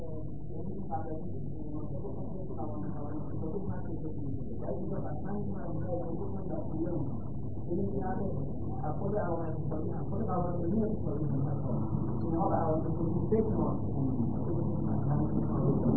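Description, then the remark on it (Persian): A steady low motor drone runs throughout, with a muffled voice talking over it. “صداتون دوست این موتور نمیذاره صدای شما رو بشنوم.”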